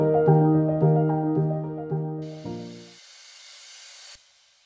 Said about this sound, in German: Das Zischen irritiert Sie? Und jetzt möchten Sie aus dem Podcast aussteigen und sofort abschalten.